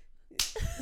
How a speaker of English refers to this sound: Clap.